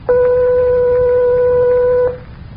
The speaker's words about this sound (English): The note that was played was 1/8 of an octave above B natural.